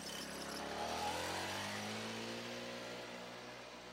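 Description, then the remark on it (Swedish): A small two-stroke moped engine revs steadily, its pitch gliding downward as the moped pulls away toward a glassworks and slowly fades. No voices, just the motor receding. “men sen försvinner mopeden iväg i riktning mot glasbruket.”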